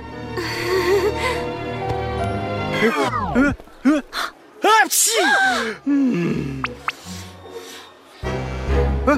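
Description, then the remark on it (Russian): A person with a feather allergy sneezes repeatedly, with rising, gasping inhales leading into several sharp, loud sneezes, over steady background music. “Извини, у меня аллергия на перья.”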